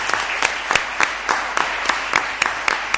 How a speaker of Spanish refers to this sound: Muchísimas gracias a todos. Este aplauso es para vosotros y gracias por la participación. Muchas gracias.